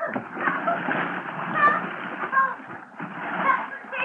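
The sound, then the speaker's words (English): Loud, continuous splashing as someone plunges into a river in December and thrashes about, water churning steadily for several seconds with indistinct voices mixed in. “Oh, December is a great month for a dip into the river if you're a polo bear, but in I went.”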